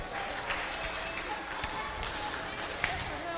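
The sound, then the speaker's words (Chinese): An audience claps steadily for a few seconds after a correct answer to a question, a dense, crackling wash of many hands with a few sharper claps standing out. Voices murmur faintly underneath. “好，来，大家鼓掌。”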